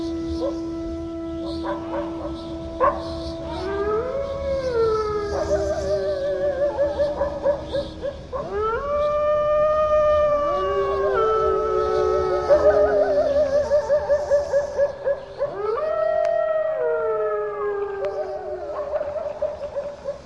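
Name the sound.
wolves howling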